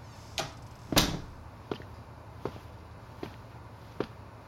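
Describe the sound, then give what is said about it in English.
A door shuts with a solid thud, followed by a few softer, evenly spaced knocks or steps fading into a quiet hum. “Close the door.”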